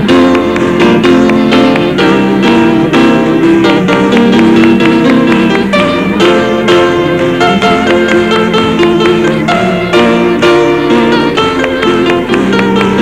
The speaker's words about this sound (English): Well, if you want joy, you must clap. The joy of the Lord, let's clap for it right now. Everybody ready?